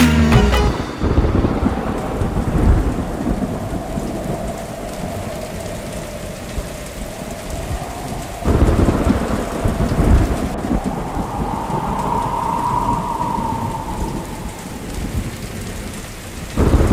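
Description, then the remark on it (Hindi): Steady heavy rain pours down in a dense, continuous hiss, while deep rolls of thunder rumble through it, swelling loudest about halfway through before fading back under the downpour. “…, सुन बिजली चमकी लिपट गए हम”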